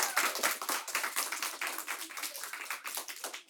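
Audience applause fills the whole stretch, a dense, steady patter of many hands clapping at a fairly even moderate loudness, with no voices over it.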